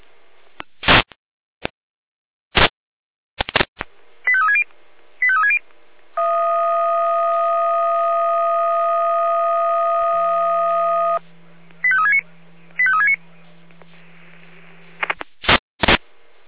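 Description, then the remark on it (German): Radio dispatch alarm call tones from the Leitstelle Jena control centre: sharp clicks and short chirping bursts, then a long steady multi-tone beep joined by a low hum, more chirps, and final clicks. No speech. “Auf Funkstelle, Leitstelle mit Alarmruf.”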